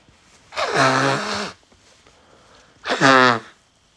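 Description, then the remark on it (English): A speaker pausing a lecture blows his nose: two loud, honking blows, the first about a second long and the second shorter, each with a buzzy, slightly falling tone, separated by a brief quiet pause. “Excuse me for a minute just so I can blow my nose.”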